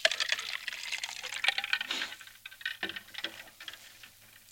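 Someone sips water from a glass: a short run of soft liquid slurps and gulps with small clicks and clinks, quiet and unhurried, with no talking.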